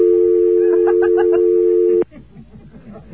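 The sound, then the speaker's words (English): A steady, loud electronic telephone-line tone as a caller's call is connected, held for about two seconds with a few brief beeps over it, then cut off abruptly, leaving faint low background noise. “Okay, well, in that case, let's go to the magic telephone machine and see who our first caller is.”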